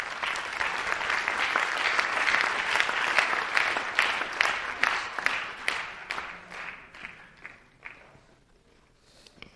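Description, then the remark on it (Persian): An audience applauds after a business-model presentation, with a dense, crackling wash of many hands clapping, holding strong for several seconds before gradually thinning and fading away, with no talking over it. “مرسی، تشویق کن.”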